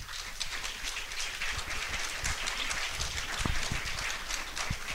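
An audience claps steadily for the full five seconds, a dense crackle of many hands at a fairly even, moderate loudness, with no voices over it.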